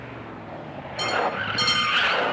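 A stolen car roars off, its engine rising from a low rumble into a loud surge, with two short, high tire squeals as it pulls away.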